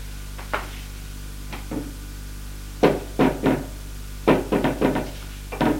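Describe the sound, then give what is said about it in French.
Knocking on a bedroom door: a few faint taps, then a firm series of three knocks, followed by a quicker burst of four and a final rap, with no talking. “On frappe à la porte de la chambre.”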